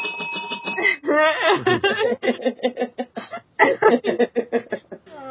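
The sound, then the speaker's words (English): A small bell rings with a bright, sustained tone for about a second, then gives way to bursts of snickering laughter. “So get your own little bell, and then when we go through the episode title synopsis, you can also go...”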